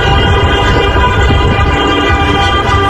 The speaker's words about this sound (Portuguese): Olha aí. No Brasil mesmo. Primeiras buzinas.